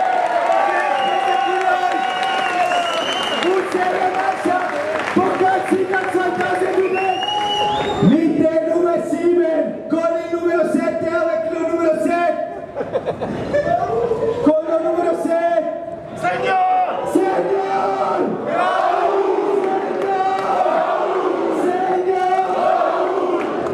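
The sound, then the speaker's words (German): A football team cheering, chanting and shouting together in their bus while Mario Gavranovic takes the microphone as announcer, introducing the players one by one in several languages; loud and sustained, with rhythmic bursts and occasional claps rising over the noisy crowd. “Viel Stimmung gemacht im Bus, hat sich das Mikrofon genommen und war sensationell.”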